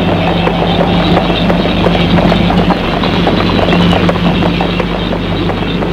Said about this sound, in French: entre avec son cheval. Ils vont jusqu'à l'entrée du château.